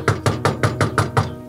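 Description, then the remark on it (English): A quick, steady run of about seven knocks on a door, evenly spaced, each a solid thud, with no voices. The person knocking holds a microphone, with a camera rolling behind them. “Knocking on a door, microphone in hand, a camera rolling behind me.”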